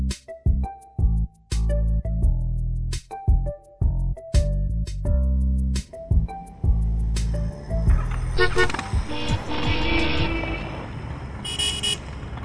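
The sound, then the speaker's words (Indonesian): Car horns honk repeatedly in short and long blasts in a traffic jam on a busy street at 4 o'clock as industrial workers head home, several horns overlapping, followed by a denser wash of traffic noise and more honking. “Di depan itu ada apa sih? Bikin macet saja.”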